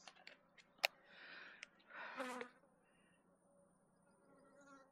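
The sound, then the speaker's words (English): Honey bees buzz faintly, mixed with sharp clicks and soft rustling swells of handling noise as the bees are sieved out of a cup. No one speaks. “So now that I've sieved those out, get rid of the bees, and this is my cup again.”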